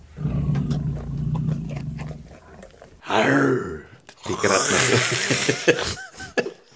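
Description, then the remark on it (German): A person imitates an animal roar with a low, rumbling, snore-like growl lasting about three seconds, followed by two short voiced bursts that sound like laughter or exclamations. “Das hat jetzt mehr getönt, wie ein älterer Herr, der schnarchelt in seinem Mittagsschläfchen.”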